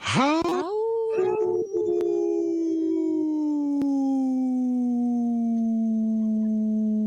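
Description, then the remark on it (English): A person imitates a wolf with one long, loud howl that swoops upward at the start, then holds and slowly sinks in pitch for about seven seconds, alone. “I could take a big, big breath and do a howl for a very long time.”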